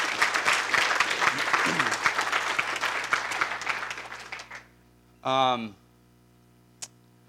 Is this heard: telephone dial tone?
no